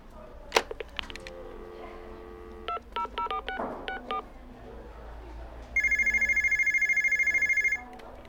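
A string of short DTMF keypad tones as a telephone number is dialed at a post office, followed by a loud, steady telephone ringing tone that pulses rapidly for about two seconds, clear, with no voices.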